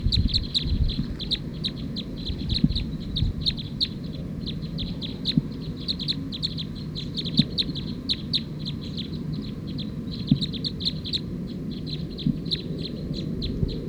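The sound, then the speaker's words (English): A recording of bird number 220, labeled as 219, calling repeatedly in fast, high-pitched chirping bursts over a steady low rumble of background noise, with no voices present. “That was actually bird 220 that was calling as 219, stop.”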